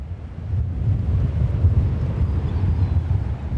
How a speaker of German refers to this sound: Von der Stadt geht es noch einmal ans Meer, bei Ebbe. Das Wasser hat sich weit zurückgezogen, der Wind allerdings zerrt an unseren Kapuzen und Haaren.